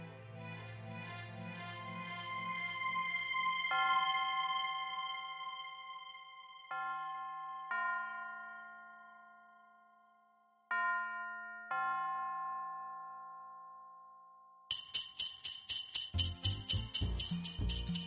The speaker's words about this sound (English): Christmas Eve. I sat there staring at a half-empty whiskey bottle, strains of jingle bells leaking in from the street.